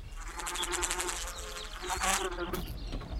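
A continuous, wavering whine of mosquitoes buzzing, several overlapping tones rising and falling in pitch for the whole stretch with no pauses.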